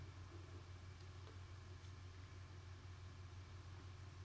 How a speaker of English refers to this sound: Oh, I think there's a truck outside or something.